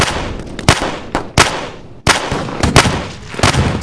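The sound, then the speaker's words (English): Loud hand cannon gunfire: several sharp, booming shots fired at an uneven pace over a dense, noisy background of combat, with no one speaking. “Does he have a hand cannon up here?”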